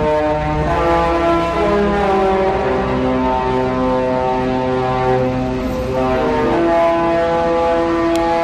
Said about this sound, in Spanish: El crucero hacía sonar la sintonía de la serie Vacaciones en el Mar antes de partir hacia Southampton. Se escuchó en buena parte de la ciudad. Lo cierto es que este curioso sonido es una de las señas de identidad de la compañía de cruceros Princess.